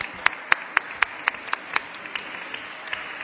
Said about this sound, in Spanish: Muchas gracias. Señor Estalella, un aplauso.